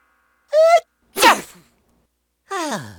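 A single loud human sneeze: a short voiced "ah" build-up, then a sharp explosive burst, followed after a pause by a falling vocal groan.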